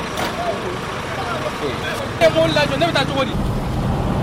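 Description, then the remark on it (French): Busy street ambience in the town of Diboli, where hundreds of trucks are parked during a border closure. A steady rumble of traffic and idling trucks, a short hiss like an air brake, and indistinct voices chattering in the background. “C'est l'ambiance à Diboli. Parmi les centaines de camions stationnés dans la ville, certains transportent des aliments.”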